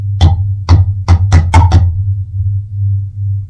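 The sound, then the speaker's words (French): Glasses clink together in a toast, six quick bright taps in the first two seconds, over a steady low hum that continues alone afterward. “Tchin tchin.”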